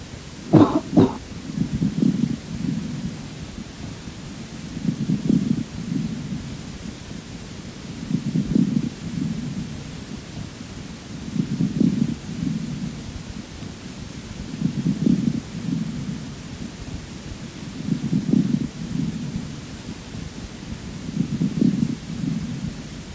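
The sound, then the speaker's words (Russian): A brief cough opens, then seven steady, evenly spaced breaths heard through a stethoscope at the same chest point in a patient with bronchiectasis, each carrying low, muffled, moist medium- and large-bubbling crackles, dull, with no talking. “Сейчас вы услышите влажные, средне- и крупнопузырчатые хрипы у пациента с бронхоэктатической болезнью.”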